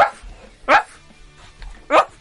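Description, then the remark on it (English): A paid intern on all fours barks like a dog on a Talk Radio afternoon programme, giving three loud, sharp yelps spaced out over about two seconds, with quiet gaps in between. “for no real reason, he's just on all fours, barking like a dog.”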